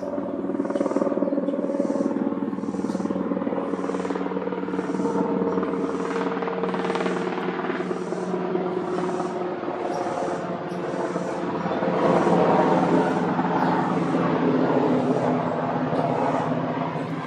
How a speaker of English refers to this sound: That helicopter was low enough that it threw a shadow in the park that I'm at. I'm at Walter Reed Community Park.